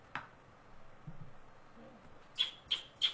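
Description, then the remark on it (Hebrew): A sparrow gives a few short, sharp chirps in quick succession near the end, after a single earlier chirp, against a quiet, faintly noisy background with no talking. “זה הדרור.”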